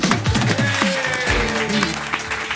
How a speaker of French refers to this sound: Je compte jusqu'à 3 et il apparaît. 1, 2, 3. Applaudissements pour Gus.